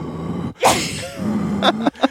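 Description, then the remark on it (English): A voice imitates heavy, labored breathing heard inside headgear in a swamp: a loud breathy rush, a low humming strain, then two short sharp gasping inhales. “Like me breathing really hard.”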